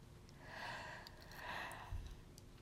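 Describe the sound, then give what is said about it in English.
A single soft yawn: a long breathy intake swelling into a drawn-out airy exhale, with no talking around it. “Oh, excuse me, yawn.”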